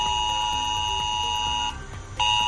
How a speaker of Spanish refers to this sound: Es el famoso aviso de protección civil en el móvil que todos conocimos a raíz de la Dana en Valencia. Bueno, pues te pongo en sobreaviso para que no te asustes.